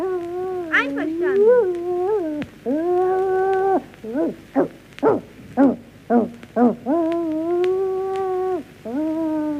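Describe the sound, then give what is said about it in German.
Several long, wavering howls from wolves and foxes rise and hold, broken in the middle by a quick run of sharp yips and barks, then more sustained howling; fairly loud, with no talking. “Wie wär's denn, wenn wir hier bei den Füchsen und Wölfen anfangen?”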